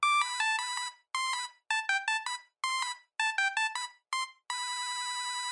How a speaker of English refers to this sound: And these were basic monophonic ringtones, simple bleeps and bloops, like this.